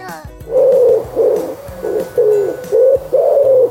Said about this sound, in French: Est-ce que tu as reconnu ce son ? C'est celui d'un oiseau, oui, mais lequel ? Un perroquet ? Un aigle ? Un moineau ? Pas du tout, voyons, c'est un pigeon.